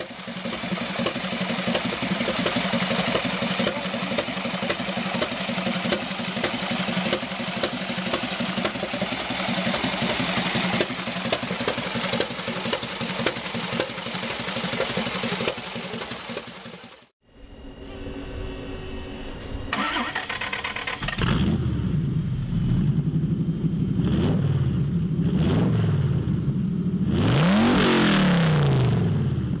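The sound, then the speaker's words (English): Loud engines of two very different custom motorcycles built by Alan Milliard: a steady rumbling idle giving way after a brief pause to another engine that blips and revs repeatedly, pitch rising and falling with each throttle twist. “Now that is the sound of two very different, utterly remarkable and totally unique motorcycles built by the same man.”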